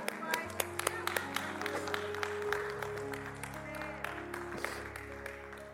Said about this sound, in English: About three of y'all clap right there.